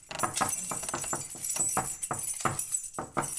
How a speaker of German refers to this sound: Die Wohnungstür. Wir gehen zur Tür rein. Ein quietschender alter Holzboden, ein Schlüsselbund und die Wohnungstür ist hier.